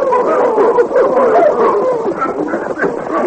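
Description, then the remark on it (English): Several dogs whimper and yip in a continuous, overlapping chorus of high, wavering whines, steady throughout, with a few sharper yelps mixed in. “By the time the posse topped the rise and slowed to a halt, only the dogs seemed to be alive.”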